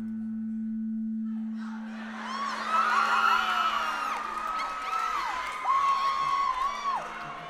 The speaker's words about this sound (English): The messages that come forth to the stage are interesting ones. They're often groups of people shouting "I," so it just ends up being a confusion for me.